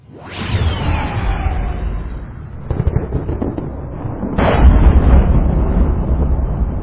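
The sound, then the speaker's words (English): A loud crash of thunder over a crater floor, with lightning, bursts out, followed by crackling and a second heavy crack, with deep rumbling rolling on underneath throughout. “Lightning blazed overhead, and thunder slammed the crater floor hard enough to shake the ground.”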